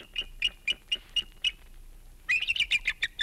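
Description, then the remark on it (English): A bald eagle nesting in Florida gives its wild cry: a series of thin, high-pitched piping notes at a steady pace, then a faster, excited chattering burst, fairly clear with no voices. “That was the wild cry of a bald eagle nesting in Florida.”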